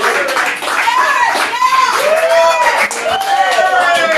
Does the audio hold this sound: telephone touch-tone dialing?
no